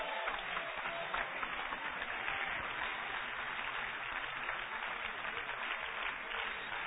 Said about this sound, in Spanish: ¿Alguien le puede dar un aplauso al Señor en esta noche?